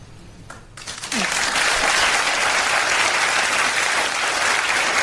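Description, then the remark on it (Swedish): A crowd bursts into loud, sustained applause after a brief quiet moment, dense clapping filling the space steadily until the end. “Fast det är ju mycket det här hänget mellan punkt och applåd.”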